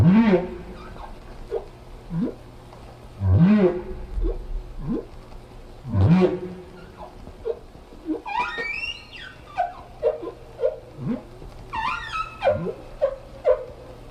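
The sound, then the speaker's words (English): Humpback whale song: deep, rising moans and groans alternate with higher warbling, squeaky upsweeps in a repeating sequence of calls, loud with a faint hum underneath. “The whales slowly accumulated a bunch of differences until they began to sing this song.”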